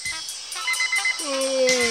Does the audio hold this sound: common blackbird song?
no